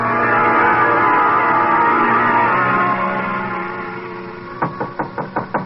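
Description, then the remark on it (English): A sustained, ringing harmonic tone fades away, then about six quick, sharp knocks from a bellhop rap on a hotel room door in a steady rhythm. No one speaks. “The knock surprised me. I'd forgotten about the bellhop.”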